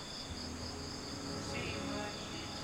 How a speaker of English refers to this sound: That chorus has been going for 100,000 years, 200,000 years, the same thing every night. Those cicadas. They'll never stop.